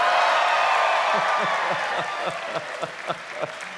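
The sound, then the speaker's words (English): A crowd bursts into loud applause mixed with cheering and whoops, then the roar thins out into scattered individual claps that fade toward the end. The audience applauds in answer to being asked who simply does not care whether the New England Patriots or the Philadelphia Eagles win. “And the third and final question I always ask, it gets the loudest applause.”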